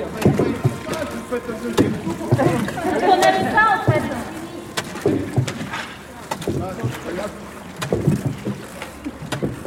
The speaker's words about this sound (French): Nous sommes maintenant au club de canoë de Périgueux pour un dernier échauffement. avant de monter sur le canoë et de naviguer sur la rivière Lille qui longe les quais de Périgueux.